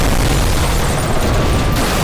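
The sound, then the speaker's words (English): A helicopter, Chopper 11, crashes in intense rain in a loud explosion, a dense, sustained roar of rumbling noise with a heavy low-end boom that stays at full strength for about two seconds, with no voices. “That helicopter's crashing from all this intense rain!”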